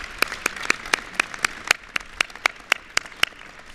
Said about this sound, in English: She has done just an amazing job, and we need to give her another round of applause.